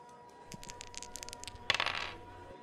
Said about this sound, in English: Let the good times roll with dice roll number three.